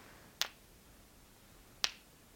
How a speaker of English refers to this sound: Next up, I have two stones here. I'll be tapping them gently around you. You'll hear a slight vibration sound.